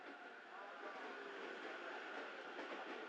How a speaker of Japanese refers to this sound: あ、電車来ましたよ。